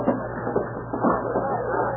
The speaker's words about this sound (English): Lock the door, Smithy.